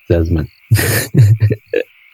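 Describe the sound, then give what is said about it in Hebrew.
A steady, high cricket trill runs through the whole stretch, broken by several louder, rougher bursts that sound like croaking frogs, like a nighttime chorus outdoors. “או צרצרים.”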